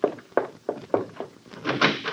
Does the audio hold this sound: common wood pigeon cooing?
no